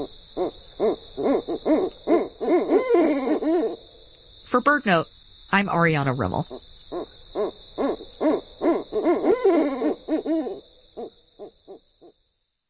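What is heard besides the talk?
owl hooting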